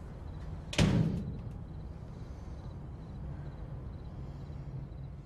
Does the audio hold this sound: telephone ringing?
no